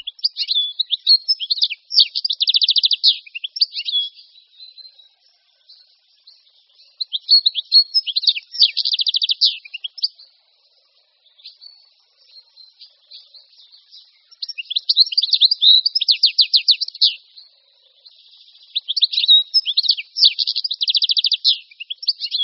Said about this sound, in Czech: Stehlík je velmi pestře zbarvený ptáček, převažuje hnědé zbarvení, křídla jsou sytě uhlově černá s nápadnými žlutými políčky, na hlavě nás upoutá červená a černá maska. Tak vypadají ovšem pouze staří stehlíci.